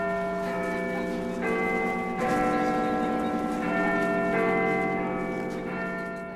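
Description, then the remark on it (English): Big Ben, the large bell in the clock tower of Elizabeth Tower at Westminster Palace, London, which chimes every hour, sounds about six deep strikes at an unhurried pace, each ringing note overlapping the last in a rich, sustained resonance. No voices are heard. “Big Ben is the name of the big bell in the clock tower. The bell chimes every hour.”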